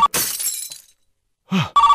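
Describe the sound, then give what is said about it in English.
Premier Vasily's telephone rings in short, steady electronic trills, broken up by a loud crashing, shattering burst and a brief swooping noise before the ringing starts again. No one speaks. “That's Premier Vasily's phone.”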